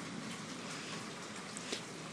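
Steady rain falls in Raleigh, North Carolina, in a soft, continuous hiss, with faint scattered drips and spatters in the texture. It stays even and fairly quiet throughout, with no voices.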